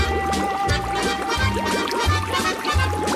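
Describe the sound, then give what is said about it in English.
Champagne pouring and fizzing steadily, with a bubbly, effervescent hiss over low, rhythmic thumping pulses in the background, fairly loud throughout. “There's so many bubbles, I can't.”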